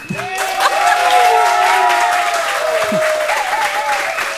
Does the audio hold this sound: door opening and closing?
no